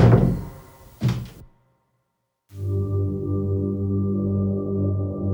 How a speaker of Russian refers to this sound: Саймон аккуратно прикрыл за Томасом дверь и вытер вспотевший лоб.